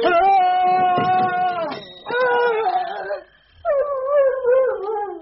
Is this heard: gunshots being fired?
no